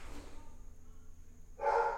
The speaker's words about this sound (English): The dogs are driving me crazy. I tried to take a nap today. I never take naps. And it was just like my kids and my wife were at the pool the town pool, and I just was like, oh, peace, I'm gonna rest. They just barked for 2 hours straight